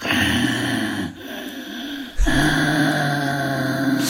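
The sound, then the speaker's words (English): A voice imitates a car driver's heavy, rasping breathing during a drive down the Autostrada at 200 kilometres an hour: a long drawn-out breath, a brief pause, then another loud, noisy breath, like someone wheezing in a deep sleep. “And all I remember was this guy breathed very heavily, and it terrified me.”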